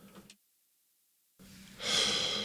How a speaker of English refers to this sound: Hold on, let me blow my nose.